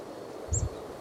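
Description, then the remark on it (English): A single brief, thin high-pitched type 1 call from a chickadee foraging in a dense thicket within 1 meter of the ground sounds once against a quiet outdoor background, accompanied by a soft low thump. “But it's usually these type 1s.”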